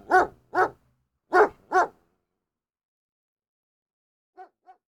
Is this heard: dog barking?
yes